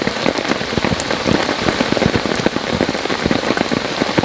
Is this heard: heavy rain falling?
yes